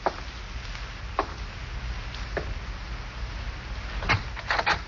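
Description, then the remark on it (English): Slow, evenly spaced footsteps walk down a hall to the front door, then a latch clicks and the front door creaks open near the end, with a low rumble underneath. “Slowly, you walk to the front door.”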